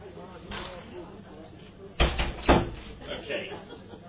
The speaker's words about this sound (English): I'll close the door.